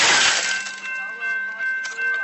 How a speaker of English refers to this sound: The video shows several attempts to break in, slamming his baton into the window. That's not what I was talking about. Eventually, the glass shatters.